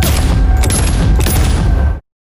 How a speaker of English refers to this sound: Then this guy starts screaming. All you hear from there is three shots.